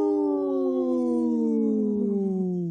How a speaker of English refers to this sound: Wow. That cat was, my cat over here was howling.